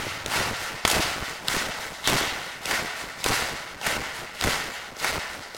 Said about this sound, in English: And the first group, you can stop clapping, take a deep breath, and be seated.